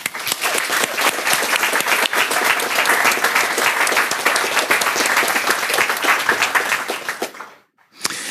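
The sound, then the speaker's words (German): Sustained audience applause congratulating a project's designer on her drawing of a tree, a dense, steady wash of many hands clapping for about seven seconds before it quickly dies away into a brief silence. “Und da bitte ich nochmal um Applaus.”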